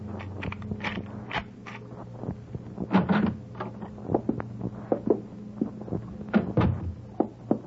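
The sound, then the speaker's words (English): A locked door is forced open with a run of sharp rattling knocks and clunks at irregular intervals, fairly loud, over a steady low background hum. “Try it. Yeah. It's locked. Here, I'll get it.”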